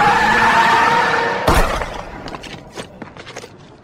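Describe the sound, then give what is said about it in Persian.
A loud, sustained screech of car tires skidding as a car drives off during a gunfight, cut off by a sharp crashing bang, followed by scattered clattering and rattling that fades out. “کریل سوار ماشین میشه و حرکت میکنه.”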